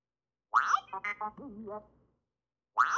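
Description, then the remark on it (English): A playful BB-8 robot droid phone ringtone: a quick chirpy burst of warbling, pitch-bending electronic beeps and burbles lasting about a second and a half, then silence before the chirp begins again. “And then a ringtone I have is a BB-8 sound. Here, I'll play it for you.”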